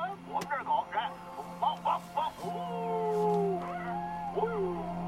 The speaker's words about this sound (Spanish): haz que tus perros ladren de nuevo, por favor. Que ladren, que ladren, sí.